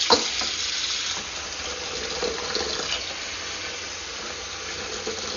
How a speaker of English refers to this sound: Add water to kettle.